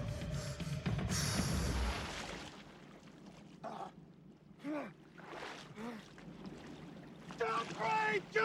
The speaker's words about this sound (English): there is a very exciting chase sequence very early on between the two boats